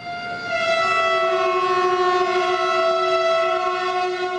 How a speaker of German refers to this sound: So tönt es heute Punkt 14 Uhr aus vielen Lokomotiven in der Schweiz. Eine Hommage der Lokführer an ihren verstorbenen Kollegen, wie Hubert Giger, Präsident des Verbandes Schweizer Lokomotivführer, sagt.